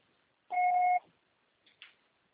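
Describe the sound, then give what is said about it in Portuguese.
A single steady electronic beep, about half a second long and fairly loud, from an answering machine, followed by a brief faint rustle and then quiet. “O pessoal será tarifado após o sinal.”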